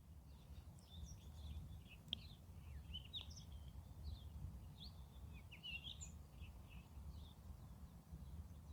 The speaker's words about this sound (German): Ich werde jetzt noch ein bisschen diese Natur genießen und diese wunderschönen Geräusche. Vielleicht hörst du es im Hintergrund. Ich bin mal ganz kurz still. Dann darfst du mal auch diesen wundervollen Vögeln lauschen.